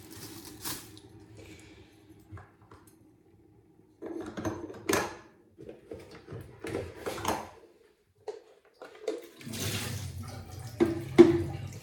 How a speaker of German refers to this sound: So, ihr hört, der Kaffee ist fertig.